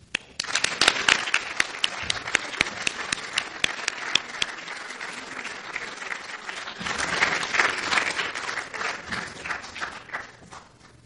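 An audience applauds steadily for about eleven seconds for doctors named to the Order of Quebec, a dense patter of many hands clapping at an even, lively level without any voices standing out.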